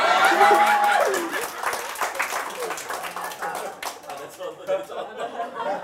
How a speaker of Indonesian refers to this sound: Tepuk tangan dulu Bapak Ibu.